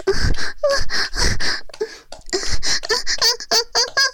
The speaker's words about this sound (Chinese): 你兴奋的喘息的声音，打人家后背都喷得暖暖的了呢。